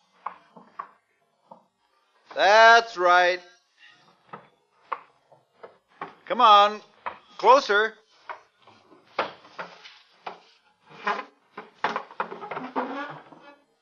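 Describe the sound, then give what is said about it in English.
A chair is dragged across a hard floor up to a door in three loud, squealing scrapes separated by pauses, with lighter knocks and bumps in between, while a man speaks. “bring your chair to the door. Oh, he's doing it.”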